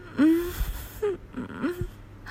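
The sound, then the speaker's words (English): Three short, breathy whimpers, each a thin high-pitched whine that rises and falls, spaced about half a second apart with soft breathing between them and no talking. “Whimpers.”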